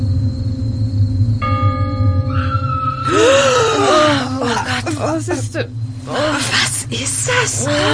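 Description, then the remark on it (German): In the middle of the night, a woman screams in high, wavering bursts that sweep up and down in pitch, following a low sustained hum and steady tonal drone, with ragged voiced cries trailing after. “Für ein Schrei. Es ist mitten in der Nacht.”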